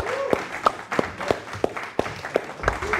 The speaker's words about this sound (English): So I want you to give a massive round of applause for our next speaker